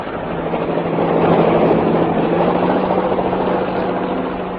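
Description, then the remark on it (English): A helicopter hovers, its steady engine roar and rotor rumble swelling slightly as it lifts a soaked police detective up from the water, continuous throughout with no voices. “The chopper's taking him up a bit and they're signalling again.”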